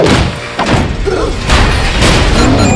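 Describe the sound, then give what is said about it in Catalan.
Heavy thuds against a door in the animated film Captain Underpants, loud, landing as a few dull impacts over a steady rumbling din with no one speaking. “Ostres, aquesta porta és cara.”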